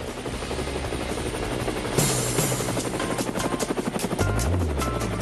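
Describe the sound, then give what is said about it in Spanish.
A helicopter roars, its rotor thumping in a fast, steady rhythm over a loud engine whine that swells partway through. No voices are heard. “Bueno, Edemio se suma al viaje al helicóptero y por supuesto Maite Rodríguez, y vamos atrás de a ver dónde nos lleva nuestra colega Exilda Arjona.”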